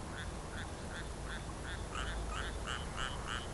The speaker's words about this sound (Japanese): これも別にね、ジャストでカエルがなんか言うんじゃなくて、こうなんか言うてて、僕はええ感じで言うてるところにカエルが割って入る感じのがまた面白いんですよね。まあこのカエル、時々ガッカ鳴いてるカエルも別に僕に答えてるというよりはやつの事情で鳴いてるんでしょうね。